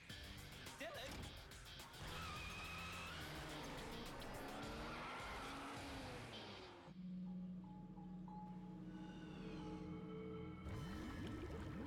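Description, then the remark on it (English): A man's car engine revs hard and tires skid and squeal as he drives away in it at speed, loud, the engine pitch rising over a busy background with indistinct voices. “Oh god, he's taking his car.”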